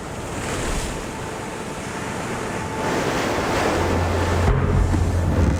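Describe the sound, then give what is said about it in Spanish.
Huge waves slap and crash against the side of a sailboat's hull at night in continuing bad weather, a dense, rushing wash of water that swells louder midway, with gusty wind noise buffeting the microphone throughout. “Las enormes olas están azotando el lateral del barco.”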